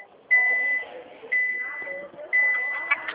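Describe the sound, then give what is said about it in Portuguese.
Three steady, high-pitched electronic beeps, about one per second, each lasting around half a second, heard over a phone call from a person in a car, over a low, muffled background rumble. “Eu acho que você está no trabalho, né? Tá pitando aí.”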